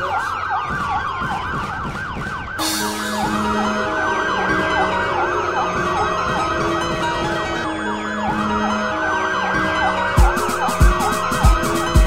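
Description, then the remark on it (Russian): Several emergency vehicle sirens wail at once, their rising and falling tones overlapping loudly and continuously, with a steady low pulse and some sharp thumps underneath toward the end. “Под звук сирен, сирен и вертолеты в небе.”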